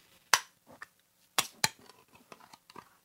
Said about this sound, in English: Okay, this time I'm going to remember to open the can next to the microphone and probably squirt pineapple juice all over myself, which is okay because we've already established how much I love pineapple juice.